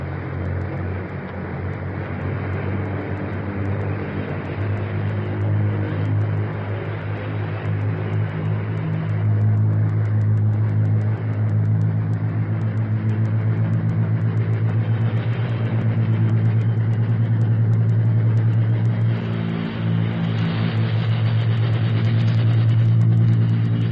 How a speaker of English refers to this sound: our microphone is open, ready to record the sound of your 10 engines as you pull up to it, pass it, and get off the ground to start a practice mission of thousands of miles.